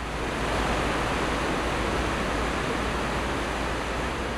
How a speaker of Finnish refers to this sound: Koko viikon on tässä välissä satanut ja vettä tuntuu olevan nyt paljon enemmän. Koske äänikin kuulostaa jotenkin erilaiselta.